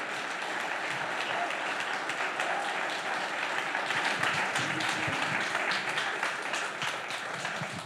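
A church audience gives sustained applause to welcome a pastor, a dense steady wash of many hands clapping at an even loudness for several seconds, with no one speaking over it.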